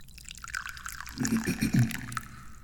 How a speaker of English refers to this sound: I am the chairman of the Dubious Goals Committee, and I like to pour and then drink tea, so let's do some of that.